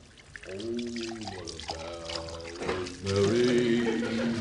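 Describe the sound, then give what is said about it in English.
Water is poured steadily into a glass, its gurgling tone rising in pitch as the glass fills, with a brief pause before a second pour. Clear. “Brother Ender, ain't you got that glass of water yet?”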